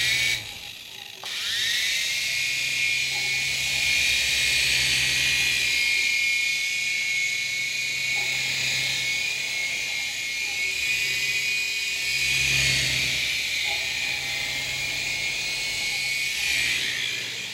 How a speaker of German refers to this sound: Wir hören nicht gern das Wort Drohnen, das kommt aus dem militärischen Bereich. Wir benennen dieses Gerät einen Drehflügler.